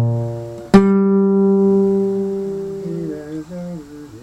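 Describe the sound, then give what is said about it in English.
Two notes a sixth apart sound together with a sharp struck attack, ringing steadily for a couple of seconds before slightly wavering, lower tones take over near the end. “He says it's a 6th. You agree? You guys are correct.”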